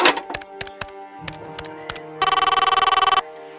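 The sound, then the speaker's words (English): A few sharp clicks and knocks, then a single loud, trilling telephone ring lasting about a second, its rapid bell-like warble cutting off abruptly. No voices. “Would you hand me the phone?”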